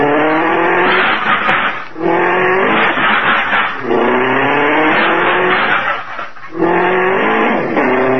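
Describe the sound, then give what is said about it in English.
An old hot rod's engine revs up loudly, its pitch climbing in several repeated surges with brief drops between, as the car pulls out of a tight parking spot and accelerates hard. No voices. “Gee, we were really parked in there tight.”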